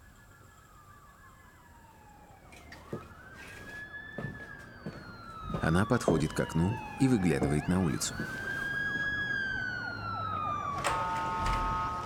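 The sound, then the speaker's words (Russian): An ambulance siren wails in long rising and falling sweeps, fairly close and loud, with a voice speaking over it partway through; the ambulance has parked nearby. “Неподалеку припарковалась скорая.”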